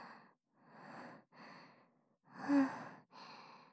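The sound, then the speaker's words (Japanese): Heavy, out-of-breath panting from nervous tension just after winning a tense game round: five broad, breathy exhales in a steady rhythm, fairly loud, the fourth strongest, with no talking. “はあ、いや、さすがに今のはだいぶ緊張したよ。息切れちゃった。うるさかったらごめんね。”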